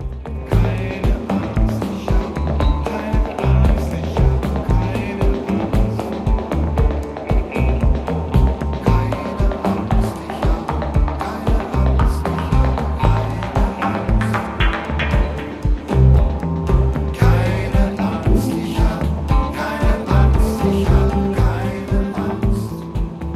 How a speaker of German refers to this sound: Für mich aber noch viel mehr Soundtrack der Krise geworden ist dieses Stück hier von der Band ….